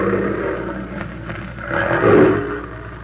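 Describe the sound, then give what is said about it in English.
A female big wild cat lets out a low, rumbling roar that swells to a loud peak near the end, deep and throaty with no one speaking over it. “Keep the safety on that rifle, Benson. We're taking that cat alive.”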